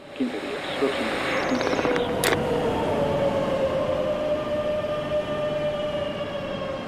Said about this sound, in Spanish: Cuando me montaba en el tren, la primera vez, el primer día que me monto, una soledad. Uy, esto solo, qué silencio.